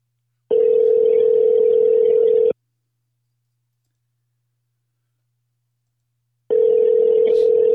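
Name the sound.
phone call ringing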